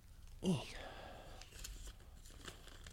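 Quiet rustling and crinkling of big pieces of paper being handled, with a short louder burst near the start followed by soft, scattered shuffling sounds.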